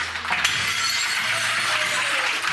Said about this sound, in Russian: А сейчас в помещении музея бьется посуда. На счастье.